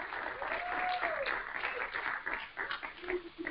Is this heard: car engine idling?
no